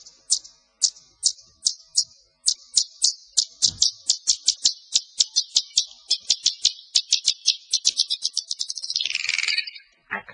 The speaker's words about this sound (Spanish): Vamos a poner un ejemplo de murciélago ecolocalizando. Concretamente, ecolocalizando un grillo que al final de la pista sonora se lo come.